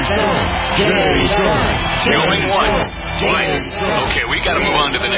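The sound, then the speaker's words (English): A dense, loud crowd roars and chatters continuously, with voices shouting and calling out a name amid the noisy cheering throughout. “Cheering crowds surround you, calling out your name.”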